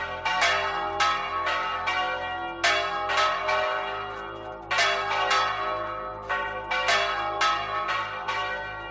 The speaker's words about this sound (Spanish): Estas campanas que escuchas no volverán a sonar hasta la noche del sábado.